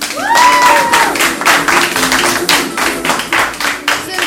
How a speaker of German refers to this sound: Alle Gäste hier im Studio, von denen ich einen Applaus bitte,